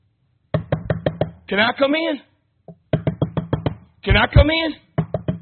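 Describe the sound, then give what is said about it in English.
Quick bursts of firm knocking, as if on a door, come in rapid groups of about six raps, broken up by short spoken phrases between each round. “Hey, can I come in? This is the idea. Ask, seek, knock.”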